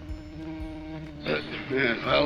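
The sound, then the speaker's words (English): A steady drone of bees hums throughout, a sustained buzzing with harmonic layers, joined halfway by brighter, busier bursts that thicken the swarm-like sound. “I'm Bartholomew the Bee Man. Here, have a sample.”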